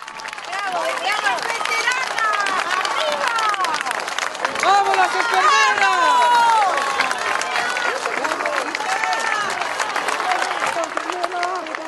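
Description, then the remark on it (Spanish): A large crowd applauds and cheers continuously as women veterans march past in a parade, dense clapping mixed with shouts of "Argentina" and excited voices, loud throughout, swelling slightly near the middle. “Y escucha a la gente, así las reciben a su paso, aplauden, gritan, les estiran las manos, los brazos, les gritan Argentina, el nombre de la patria que muchos varoncitos con medallas dicen defender.”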